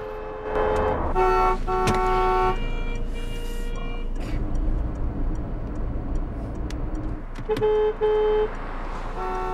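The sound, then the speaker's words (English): Car horns honk in bursts over a steady low rumble of traffic, a couple of long blasts near the start and another pair toward the end, with engines droning throughout. “Now they're caught in heavy traffic.”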